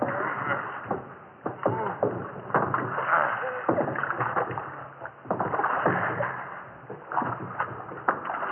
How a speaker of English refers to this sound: Yeah, and lay on those oars, you two.